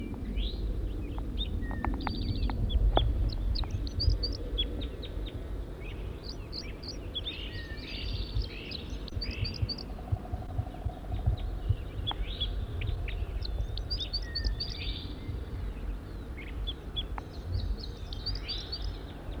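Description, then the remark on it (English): A wild male bird, recorded from close range, sings a steady stream of bright, high chirps and warbled phrases over about twenty seconds, repeating short bursts of notes above a constant low rumbling background. “It's recording the wild male again from close range.”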